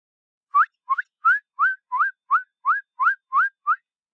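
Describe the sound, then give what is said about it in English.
A person whistles a quick, even series of about ten short upward-slurred notes, imitating a simple high-pitched bird call, with no talking and silence in between. “Some birds have very high-pitched, very simple calls.”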